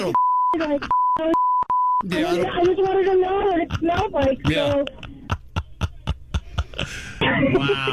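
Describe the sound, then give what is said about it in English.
Several steady censor bleeps cut in and out over the first two seconds, chopping up a female caller's speech, followed by clear continuous speech and then short clipped bursts. “You know, it's a damn shame we had to beep most of what she just said there.”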